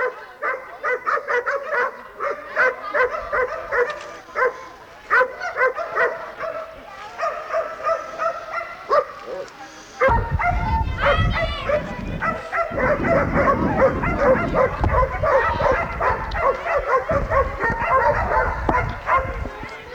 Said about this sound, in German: Die Leute vom Wobong waren schweigsam, nur die Hunde machten sich lautstark bemerkbar.